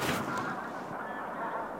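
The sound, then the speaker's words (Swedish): A large flock of greylag geese in snow, a couple of hundred meters away, honking together in a dense continuous chorus of overlapping nasal calls, steady for the whole stretch with no talking; some of the geese move off while others stay. “Ett antal gäss flyttar sig, men en del stannar kvar.”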